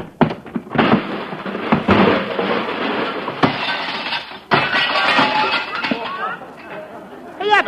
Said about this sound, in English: He broke my watch crystal.